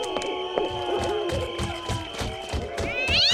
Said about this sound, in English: Oh, it's just a cat.